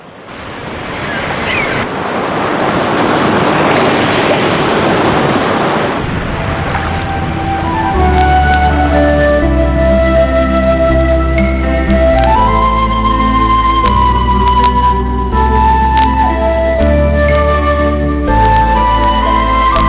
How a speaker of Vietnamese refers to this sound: tựa lưng vào vách đá, nghe tiếng sóng vỗ rì rào mà ngủ thiếp đi.